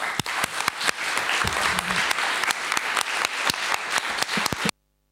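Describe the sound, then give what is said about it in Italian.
A crowd applauds steadily for several seconds at an evening event, congratulating students on their results, dense overlapping claps with sharper individual hand strikes standing out, then the applause cuts off abruptly. “Ancora complimenti e un applauso.”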